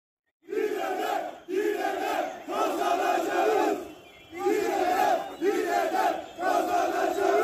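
A crowd of protesting motorcycle couriers, gathered in front of a center, chants loudly in unison, repeating a slogan in rhythmic bursts about a second long with brief pauses between them, the voices strong and steady throughout.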